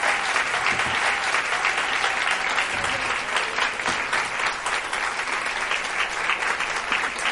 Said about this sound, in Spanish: Así que yo pido, por favor, un fuerte aplauso, muy, muy, muy fuerte,